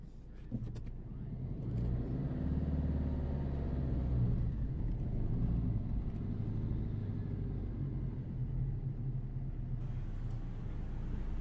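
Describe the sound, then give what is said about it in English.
A car engine idles steadily, a low continuous rumble that holds for the whole stretch with a slight rise in intensity near the start. “Go ahead and turn your car off.”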